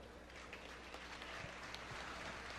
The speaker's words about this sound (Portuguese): Senhoras e senhores, queremos agradecer. Nós temos uma prenda linda, bem pilchada, entregando os troféus aqui no palco. Pedimos, eu vou pedir duas salvas de palmas.